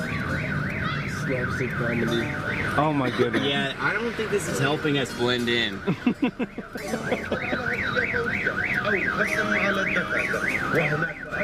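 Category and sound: vehicle, car alarm going off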